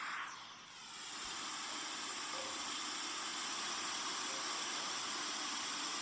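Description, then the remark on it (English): A waterfall roars in a steady, unbroken rush of white-noise-like sound, swelling briefly after a quick dip near the start and then holding an even, loud level with no voices. “Waterfall.”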